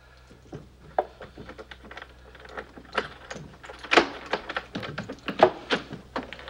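keys locking a door

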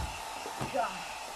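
hair dryer blowing

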